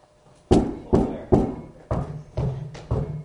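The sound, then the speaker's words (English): Six solid, hollow knocks on an outer entrance door, struck in two quick sets of three with a short pause between them. Each blow is a sharp thud that fades fast, with no voices. “Peter knocked on the outer entrance.”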